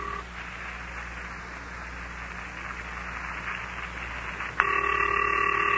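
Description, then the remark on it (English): A telephone line hisses steadily, then a loud electronic ringing tone cuts in near the end and holds, a call to the Wonderlic twins waiting to be answered. No one speaks. “I wish they'd hurry up and answer. Come on, Han. Come on, Iz. Pick up your telephone.”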